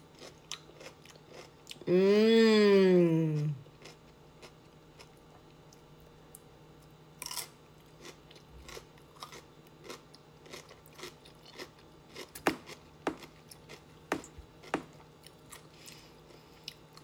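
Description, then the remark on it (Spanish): Someone taste-tests a small piece taken from the top, chewing crunchy food made with a red mixture with crushed chili, with sharp, irregular crunches and bites scattered over several seconds, preceded by a loud, brief wavering hum from a voice at the start. “Vamos a probar este que está aquí arriba, chiquito.”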